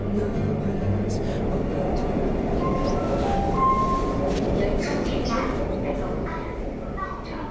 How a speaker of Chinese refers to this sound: 安和被地铁提示音拉回现实。